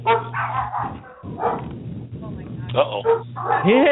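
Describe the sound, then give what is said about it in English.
A dog that has just been woken up barks in several short, loud bursts spread across a few seconds, ending in a rising whine, with people talking in the background. “Uh-oh. It woke up the dog.”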